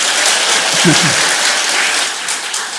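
A church audience applauding for a mission team departing today, a dense, steady wash of many hands clapping at a fairly loud level, with a brief murmur of voices underneath near the start.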